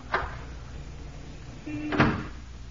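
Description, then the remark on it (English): Unlocked French doors to a living room are opened with two distinct clunks, one at the start and a louder one about two seconds later, with a brief low creak between them. “Now then, French doors to her living room. Hmm? Conveniently unlocked, too.”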